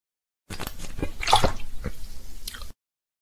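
water running

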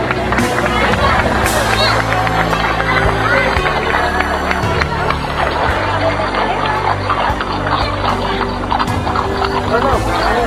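horses trotting

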